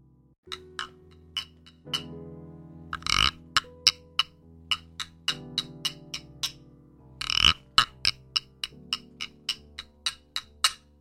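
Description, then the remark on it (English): A wooden frog instrument rasps out two ratchety croaks, surrounded by a steady string of crisp wooden taps and clicks over a soft sustained musical tone, fairly loud. “That was the Wooden Frog Pause.”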